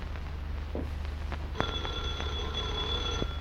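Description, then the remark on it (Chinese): A telephone rings once, a bright sustained electric ring of nearly two seconds that starts abruptly, over a low steady hum, with no one speaking. “列宁接过电话。 喂喂，过一刻钟再打来。”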